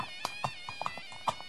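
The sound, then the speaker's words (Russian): Horse hooves clip-clop in a handful of crisp, slightly uneven knocks over about a second and a half, with a steady high tonal hum running underneath. “Однажды оседлал он коня и отправился на охоту.”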